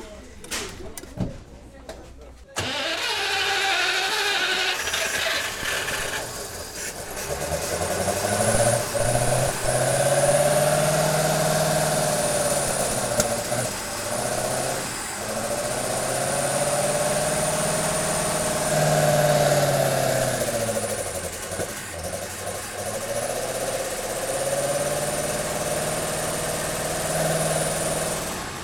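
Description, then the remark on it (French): The V8 side-valve engine of a 1960s Simca car cranks and catches after a brief quiet moment, then settles into a loud idle with a steady rumble, its revs swelling and easing back every few seconds. “Alors donc c'est une voiture, c'est une Simca, c'est un moteur de vedette qu'il y a dessus, c'est un 8 cylindres en V, à soupape latérale.”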